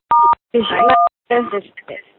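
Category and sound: signal or alarm, telephone keypad DTMF tones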